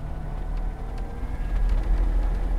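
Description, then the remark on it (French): A Slovenian-made Velis Electro two-battery electric light aircraft taking off, heard as a steady low motor drone with faint tonal whine lines, gradually swelling a little louder over a few seconds, with no voices. “Même le décollage est plutôt calme.”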